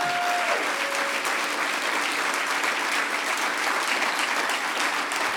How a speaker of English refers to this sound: Okay, actually give a round of applause for the row of people in the back.